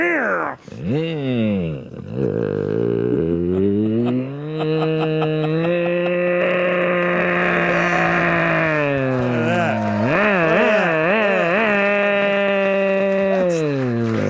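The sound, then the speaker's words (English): A voice mimics a chainsaw with a loud, buzzy drone that revs up and down in pitch, holding steady stretches between sharp wavering sweeps, continuous for about fourteen seconds. “Can you do the chainsaw?”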